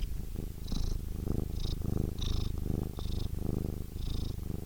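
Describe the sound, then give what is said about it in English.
A cat named Frankie purrs, a steady rumbling purr that swells with each breath in a slow, regular rhythm, with no talking over it. “Anyway, here's my cat.”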